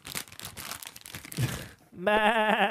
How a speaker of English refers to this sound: But so I need a better rustling sound effect. Hang on. I think I got it.